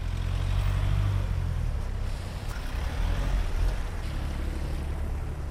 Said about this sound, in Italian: A Livigno auto e torpedoni procedono a passo d'uomo. La strada che conduce all'area delle gare olimpiche è intasata.